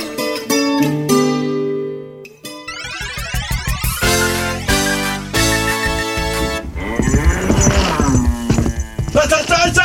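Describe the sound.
Heavy hooves gallop loud as a bull or ox runs after a man, their rapid pounding mixed into a busy, clamorous soundscape with some voices underneath.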